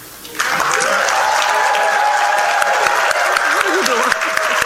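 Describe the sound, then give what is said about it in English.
A crowd at a Norfolk State University event affirming Michael Vick as head football coach bursts into steady, loud applause after a brief quiet moment, with sustained clapping and some cheering and murmured voices mixed in throughout. “Now, for those of you who don't know, I'm a preacher, so the clap was good, but can I get an amen?”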